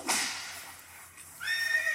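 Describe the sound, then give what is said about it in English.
A horse whinnies loudly, a breathy rising cry that breaks into a shrill, wavering neigh before trailing off, with no voices. “Okay, I know we don't have anybody here, but I don't want to hear the horse.”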